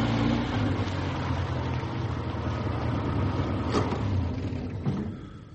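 A car engine idles steadily in a closed garage beside a house, a continuous low rumble with a faint rattling texture, holding level for several seconds before easing slightly at the end. No voices are heard.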